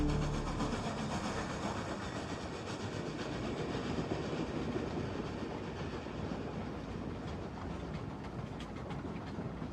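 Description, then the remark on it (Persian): A train loaded with explosives rolls steadily along the tracks through the Skull Realm, its wheels clattering in a continuous, fairly loud rumble throughout, with no voices. “ما توی یه قطار پر از مواد منفجره ایم که از قلمرو جمجمه عبور میکنه.”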